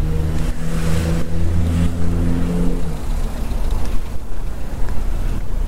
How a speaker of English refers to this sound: Here I've got traffic queuing to my left.